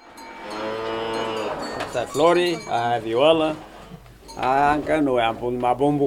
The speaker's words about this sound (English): The heifer cow is Flori, the other one is Viola, and the little one is Bumbushka.